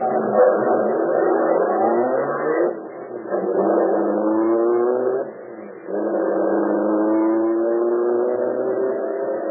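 A getaway car's engine revs hard as it accelerates, heading for a vault, its pitch climbing and then dropping at two gear changes before rising again. It stays loud throughout, with no voices.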